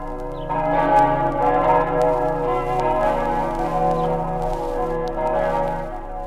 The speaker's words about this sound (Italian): E per tutti i morti del Carso, sepolti all'ombra dei cipressi pensierosi, per tutti i morti nei secoli accolti nella terra che serba le urne dei coloni di Roma, non pregano nella luce dei martiri cristiani le campane della Basilica di Aquileia?